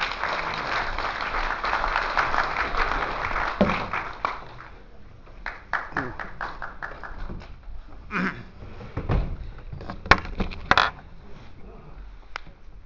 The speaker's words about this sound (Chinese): 下面让我们以热烈的掌声欢迎